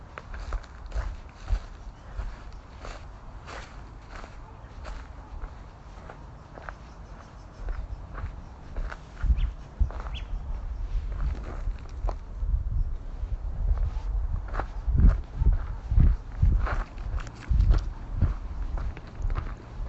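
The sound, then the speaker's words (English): Steady footsteps crunch through dry bark and dead leaves, each step a crisp, crackling burst in an uneven walking rhythm that grows heavier and louder toward the end, with a faint breezy hiss underneath. “You can hear the dryness, just all this dead bark and leaves.”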